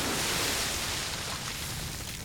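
A steady, dense rush of released water pours out, a broad hissing roar that holds fairly constant and eases only slightly toward the end, with no voices.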